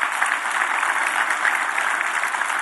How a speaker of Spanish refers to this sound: Un aplauso a Dios, se lo merece.